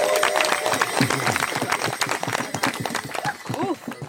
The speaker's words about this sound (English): Please, a huge cheer.